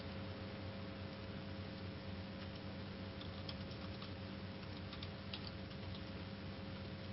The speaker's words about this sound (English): I'm actually typing some info in here. They were asking about some information.